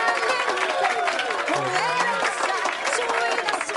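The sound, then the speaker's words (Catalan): A crowd applauds steadily for a few seconds, dense overlapping claps at a fairly loud, even level, with voices and cheering mixed in. “Un aplaudiment. Un aplaudiment.”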